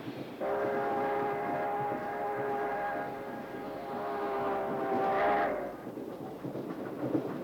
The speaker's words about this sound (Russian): С громом и скрежетом сцеп, вагон, раскачиваясь и гудя, летел по спуску между захудалых черных сосенок вперемешку с березняком.